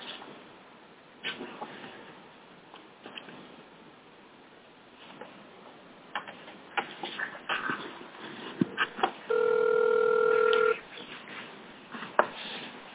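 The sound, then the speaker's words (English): Soft clicks and short beeps of a phone number being dialed to bring a participant onto a meeting call, followed by one steady electronic ringing tone lasting a second or two, with faint handling noise and no talking. “Let's get Sherry on the phone here.”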